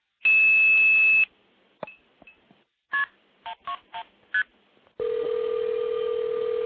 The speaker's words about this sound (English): You can hear it ringing my phone.